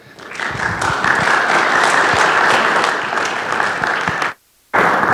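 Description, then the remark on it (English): Sustained audience applause for a speaker as he comes forward, with dense, steady clapping from many hands, loud throughout, cutting off abruptly near the end for a brief silence before the clapping resumes. “So if you would please give him a round of applause, because this is a hard job, as he comes forward.”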